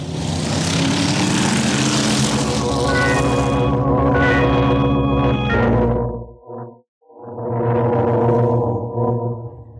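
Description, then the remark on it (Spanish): A loud car engine drones steadily as the car drives a long way through several seedy streets and alleys of the Roma Vieja, with rushing noise and faint whining tones early on, then briefly cuts out before revving back up. No one speaks. “A través de varias sórdidas calles y callejones de la Roma Vieja, el auto de Calimán ha recorrido un largo trecho”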